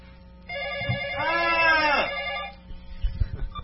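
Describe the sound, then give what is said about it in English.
A telephone rings once in a bright, buzzing electronic tone lasting about two seconds, fairly loud, followed by a few soft thumps and rustles; a caller phoning in to the Rant Radio show. “Phone. I have a phone.”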